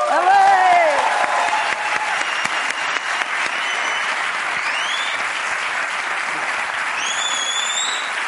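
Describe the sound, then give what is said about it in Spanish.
Loud, sustained applause from a large audience of fans fills the whole clip as a dense, steady wash of clapping, with whoops and cheers rising above it near the start and end. “Veo aplauso intenso de gente que lo ha escuchado mucho, ¿eh?”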